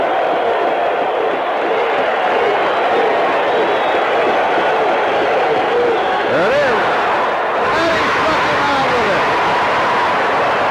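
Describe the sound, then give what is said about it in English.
The crowd at Yankee Stadium roars and cheers as Dave LaRoche strikes out Gorman Thomas in 1981, a dense, loud wall of voices with whistles and yells rising out of it, swelling further near the end. “The thing I noticed, and I'm guessing you noticed during that clip, is that the crowd at Yankee Stadium is extremely loud. They're going bananas.”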